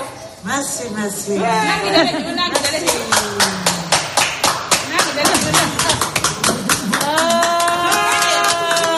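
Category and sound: crowd, applause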